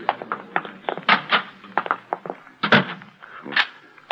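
A door being locked: a run of irregular clicks, knocks and thunks over a few seconds, with a couple of louder clacks standing out and no voices.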